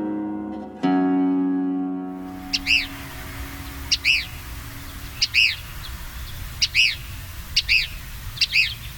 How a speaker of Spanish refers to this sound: Tirano gritón, de nombre científico Tyrannus vociferans, perteneciente al orden de los paseriformes y a la familia tiránide.